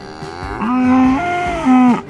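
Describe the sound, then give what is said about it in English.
A cow moos twice in close succession, loud, each call a long harmonic bellow with a rising, drawn-out tone and no voices around it. “And from the animal world, the emotional lives of cows.”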